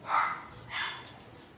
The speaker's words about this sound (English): Did you hear the dogs barking in Romania? Wow, that brought back memories.